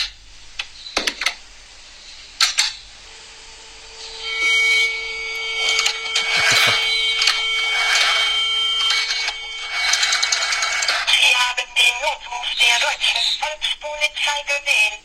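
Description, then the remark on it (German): An old rotary telephone being dialed: a couple of sharp clicks, then repeated mechanical whirring and ratcheting as the dial winds and spins back, fairly loud and continuous, with no voices. “Dieser Podcast wird nämlich präsentiert von dem guten alten Telefon mit der Wählscheibe.”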